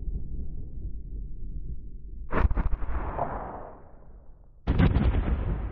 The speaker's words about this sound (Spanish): Mientras ese día llega, las bombas de la barbarie siguen tronando sin razón en Ucrania, donde la guerra ha provocado ya más de 5.000 civiles muertos, más de 260 de ellos niños.